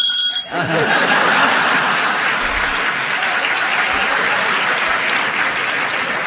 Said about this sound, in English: Oh, if only this was television. Another look, another round of applause, another big laugh. I've never known people get so much reaction on silent radio before.